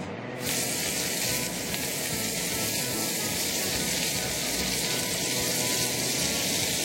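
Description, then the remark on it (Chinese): Water boils vigorously in a wok with a little water added, a steady, loud bubbling hiss that starts abruptly and continues unbroken, as salmon slices are put into it. No one speaks. “那首先呢，我们就把需要的炒锅加入一点水，等到水滚了之后呢，我们把鲑鱼的切片放进去。”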